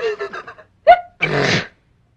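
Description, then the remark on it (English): A single loud sneeze: a short sharp vocal catch, then a half-second breathy burst. It comes right after a few brief voiced tones and is followed by silence. “A person can develop la grip, la grip, la post nasal drip, with the wheezes and the sneezes and the sinus, that's really a pip.”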